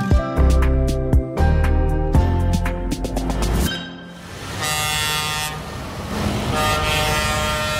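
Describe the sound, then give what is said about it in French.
Loud, overlapping horn blasts from about 250 tractors at a farmers' protest in the European quarter of Brussels during a council of agriculture and fisheries ministers, sustained tones stacking and cutting in and out over a rumbling engine drone, then a noisier stretch of mixed honking and crowd hubbub. “250 tracteurs ont une nouvelle fois fait le siège du quartier européen hier à Bruxelles.”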